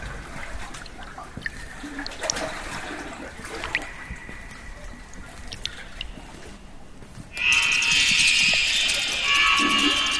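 A stream flowing inside a cave about 400 meters high and nearly 5 meters wide trickles and babbles steadily, then swells into a louder, hissing rush of running water for the last few seconds.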